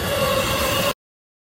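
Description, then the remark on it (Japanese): A train roars past right beside the speaker, a loud, steady rumble with a faint metallic whine running through it, lasting just under a second before cutting off abruptly. “真横をね、電車が今、通ってますので、めっちゃうるさいです。”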